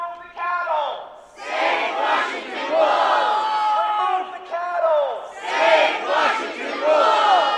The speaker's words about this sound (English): Roughly 80 people gathered at the state capitol last week to protest the state's decision to shoot and kill the entire Profanity Peak wolf pack.